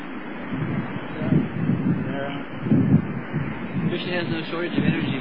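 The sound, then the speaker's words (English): Steady roar of wind and big surging ocean waves coming in, with gusty low rumbles swelling and fading every second or so, loud, outdoors on a windy shoreline. “driving the entire ocean over here. See all the big waves coming down, so...”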